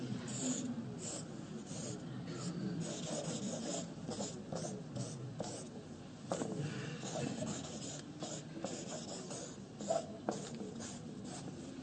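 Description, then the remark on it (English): Continuous scratchy rasp of a pencil point dragging across paper, with short strokes and taps in an uneven rhythm, fairly quiet, no one speaking. “Maybe it's because I'm not using the part of the pencil that has a point. I'll try it.”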